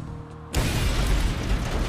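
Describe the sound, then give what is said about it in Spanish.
A pipe bomb explosion bursts in suddenly after half a second of low hum, a loud blast that keeps roaring with dense, crackling rumble to the end; the bomb, disguised as a wooden block with four nails, went off by a back door to a parking lot in Sacramento, California, on 11 December 1985. “La explosión fue violenta, haciendo un agujero enorme en el pecho de Scruton, que dejó expuesto su corazón.”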